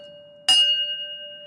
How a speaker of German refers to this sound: Man kann Trambahnwagen auch an Glocken erkennen. Das war eine Glocke für einen Bahnübergang. Das ist eine typische Heidelberger Glocke.